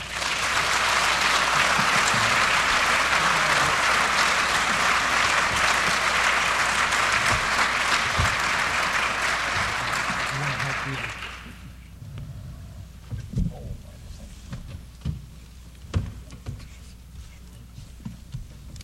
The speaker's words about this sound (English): We have some gifts as a token from the University of our appreciation. As I present those to the panelists, maybe you would recognize them one more time with your applause.